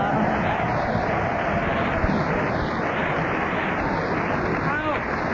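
An audience applauds a challenge that the Teletubbies is on at 10 o'clock, a dense wash of clapping that holds at an even, fairly loud level for several seconds without fading.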